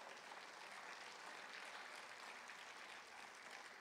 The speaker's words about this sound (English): Yeah, come on, give the Lord a big round of applause.